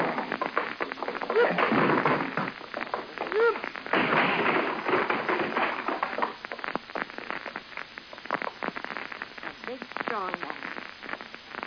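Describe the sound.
A wooden door is forced and broken down: loud splintering cracks and thuds come in a dense, continuous barrage, with a few brief strained voices breaking through the noise.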